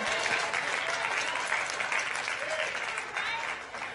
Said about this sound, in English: Y'all can clap.